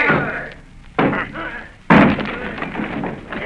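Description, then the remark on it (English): A door being battered down: two loud, heavy crashing blows about a second apart, each followed by a rumbling, clattering decay, with muffled commotion in the background. “Down with the door, then!”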